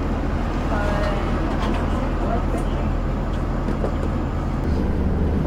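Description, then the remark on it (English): A steady, low engine rumble fills the inside of an idling city bus waiting at a stop until 5:50, with a muffled murmur of voices and faint rattles in the background. “There's still a lot of room in the back of the bus. This bus is not leaving till 5:50, so have a seat, relax.”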